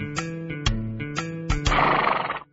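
horse neighing

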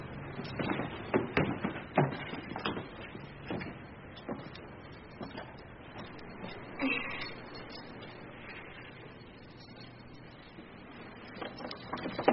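keys being tried

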